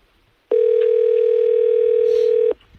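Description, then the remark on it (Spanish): A single steady telephone ringback tone sounds for about two seconds, loud, then cuts off into near silence, while an outgoing phone call is being placed. “No sé si cogerá.”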